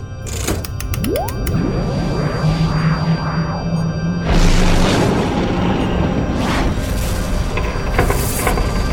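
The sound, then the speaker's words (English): Sci-fi cannon fire from a warship's forward weapon cannons strikes a spaceship, causing minor damage: a rising zap sweeps up early, then several heavy booming impacts land over a continuous low rumble, loud, with no voices. “The ship fired on us. We've got some damage.”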